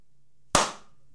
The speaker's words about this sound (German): Langsam und ironisch im Hintergrund. Meint aber genau das Gegenteil. Aber wenn ich von etwas begeistert bin, dann klatsche ich doch nicht. Das ist so ein Bösewicht-Klatschen.